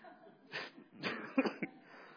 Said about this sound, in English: I'm making myself cough now.